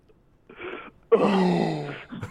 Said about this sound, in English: What are you doing? It's male gasping.